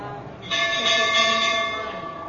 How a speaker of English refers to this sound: Fortunately, there's a very enthusiastic bell ringing.